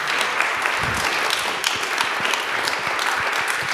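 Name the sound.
small round of applause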